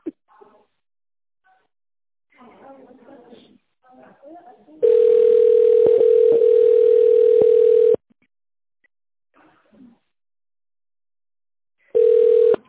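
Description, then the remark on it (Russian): A loud, steady telephone tone sounds for about three seconds after a quiet recorded company greeting asking callers to dial an employee's extension number after the signal, then a short burst of the same tone returns at the end following more faint talking. “Если вы знаете внутренний номер нужного вам сотрудника, наберите его на вашем телефоне после сигнала.”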